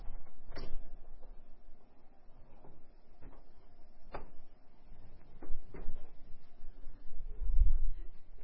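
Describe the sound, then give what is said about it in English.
A door being opened: several sharp clicks and knocks of handle and latch spread over a few seconds, ending in a low, heavy thud, with no one speaking. “I'm going to open this door, even though there's not much oxygen out there.”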